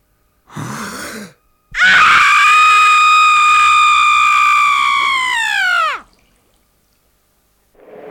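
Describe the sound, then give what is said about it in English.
A man's voice imitates a woman's childbirth scream: a brief strained cry, then one long, loud, piercing scream held for about four seconds before it drops off abruptly into silence. “It's the fire, water, female birth scream. And this is about as close as I've been able to get.”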